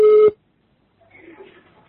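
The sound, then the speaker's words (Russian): A single loud electronic telephone tone lasting about a third of a second cuts off into silence, then faint, muffled line noise follows as a telephone call is transferred to a second telephone. “Михаил Борисович, возьмите трубочку, пожалуйста, на втором телефоне”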